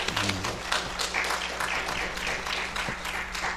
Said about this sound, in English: What a tremendous song. Good job. Didn't they do a good job? Let's give them applause.